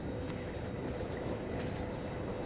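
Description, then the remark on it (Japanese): A steady low rumble of a JR Kyushu train pulling into Saga station, Japan, continuous and fairly loud, with faint rattling and no talking. “JR 九州をご利用くださいましてありがとうございました。まもなく佐賀に着きます。”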